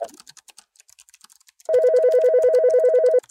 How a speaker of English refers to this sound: Still typing. Hi, I'm typing up risks for my book of risks.